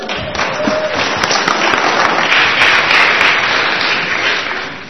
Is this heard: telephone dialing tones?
no